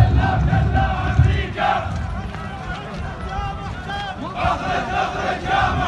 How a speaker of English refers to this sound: Earlier today, members of an Iraqi militia broke into the embassy compound, shouting anti-American slogans.